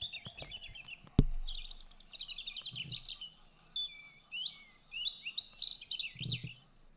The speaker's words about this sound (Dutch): Het is dus niet de koekoek, maar het vogeltje zegt, ik kan heel mooi chilpen.